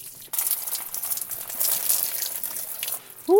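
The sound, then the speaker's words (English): Warm water streams steadily for about three seconds from a solar camp shower, a black water-filled bag hung in a tree fork and warmed by the sun above an open-topped shower tent. It is a hissing spray that cuts off abruptly, followed by a brief voice at the very end. “Darüber hängt in einer Astgabel ein schwarzer, mit Wasser gefüllter Sack, den die Sonne in den zurückliegenden Stunden gewärmt hat.”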